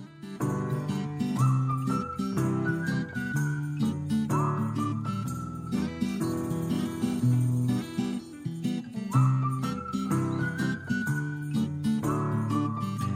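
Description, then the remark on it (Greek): A whistled melody with rising, repeating phrases rides over a full instrumental accompaniment, steady and fairly loud throughout, with no voices. “Επιτέλους και ένα έτσι ωραίο σφύριγμα.”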